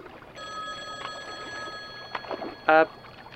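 A payphone rings once in a short, loud, warbling electronic burst near the end, following a steady high-pitched hum and a few soft knocks and rustles.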